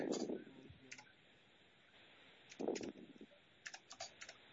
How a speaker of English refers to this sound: Hold on. I'm typing in the motion.